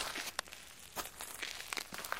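Slow, uneven footsteps crunch softly in complete darkness, a few distinct steps with scuffing and rustling between them, fairly quiet, with no voices.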